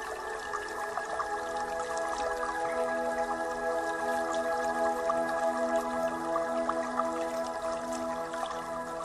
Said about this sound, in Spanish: Gotas de rocío.